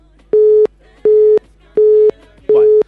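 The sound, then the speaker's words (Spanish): A telephone busy signal on the call-in phone line of the Radio Show program: four evenly spaced steady tone bursts with short gaps between, loud and clear, with no one talking. “Estamos complicados con los teléfonos, lamentablemente.”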